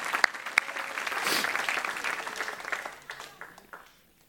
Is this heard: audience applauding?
yes